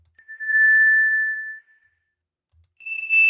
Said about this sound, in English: The sound of microphone feedback.